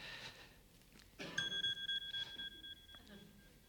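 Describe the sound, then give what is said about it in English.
The speaker's own mobile phone rings during a sermon, a high, steady electronic tone that pulses rapidly for about a second and a half, rising out of quiet background noise before cutting off. “Do you all have your phones turned off? I'm setting a poor example.”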